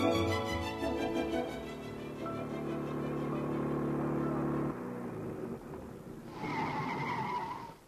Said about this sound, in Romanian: Max, a venit August cu mașina!